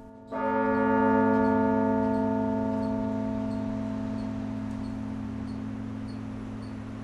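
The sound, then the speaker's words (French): A large bell is struck once, its deep, rich tone humming and slowly fading over several seconds with no voices; one of the 62 carillon bells in the bell chamber on the 4th floor of the Beffroi belfry. “On retrouve ici les 62 cloches du carillon.”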